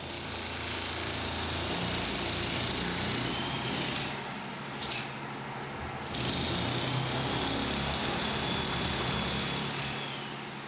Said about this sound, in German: Baulärm dringt aus einem Haus in der Nachbarschaft Mohammeds.